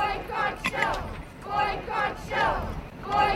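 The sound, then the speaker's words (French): Hundreds of protesters on South African beaches, in Cape Town and Port Elizabeth, chant together in loud, rhythmic bursts, many voices rising and falling as they repeat a slogan roughly every second, calling for a boycott of Shell with slogans like "Go to hell, Shell". “Des centaines de manifestants le long des côtes appelant à boycotter Shell, avec aussi des slogans comme « Go to hell, Shell ».”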